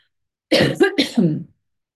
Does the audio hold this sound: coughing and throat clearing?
yes